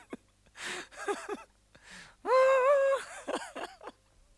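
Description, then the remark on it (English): A voice imitates wind, with breathy whooshes and short wavering hums, then a louder sustained howling tone that slides slightly in pitch before fading into softer breathy bursts. “I even do wind noises.”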